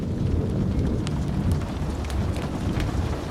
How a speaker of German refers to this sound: Das Prasseln des Regens und das Grollen des Donners waren für ihn nicht nur Geräusche, sondern Ausdruck des Lebens selbst.